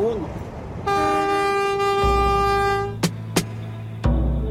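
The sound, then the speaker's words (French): A rustic train, driven like a bus with a gear lever and a bus steering wheel that serves as the brake, sounds one long, steady, buzzy horn blast lasting about two seconds, then its low rumble continues with a few sharp metallic clanks. “C'est quand même sacrément rustique ce train et on se dit s'il prend le réflexe de tourner le volant pour freiner quand il remonte à bord d'une voiture, on n'aimerait pas être à bord.”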